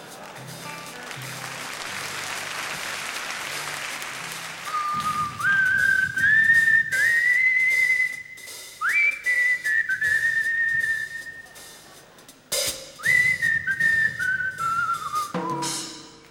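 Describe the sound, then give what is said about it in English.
A man whistles a wandering tune, clear, in long sliding phrases with short pauses between them, after a few seconds of soft background noise. “he began whistling a tune this time to accompany himself.”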